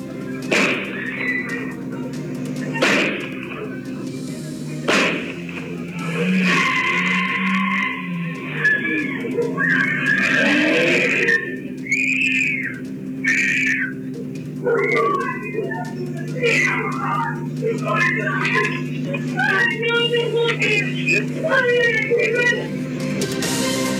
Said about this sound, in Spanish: Sí, y lo que ustedes escuchaban también en este audio serían disparos. Eso todavía no ha sido del todo confirmado por Carabineros porque no hay evidencia balística, pero sí está el testimonio, primero de las víctimas y también de vecinos que aseguran